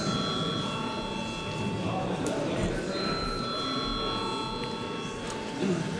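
A steady electric bell rings continuously for several seconds in a parliament, calling members to vote on a bill in its third reading, a bright sustained metallic tone, with a faint murmur of people in the background.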